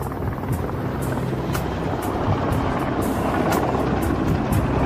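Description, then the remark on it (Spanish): A Black Hawk military helicopter without insignia circles overhead, its deep rotor drone laced with a rhythmic high chopping, loud throughout with no voices. “El helicóptero es un Black Hawk y no lleva insignias.”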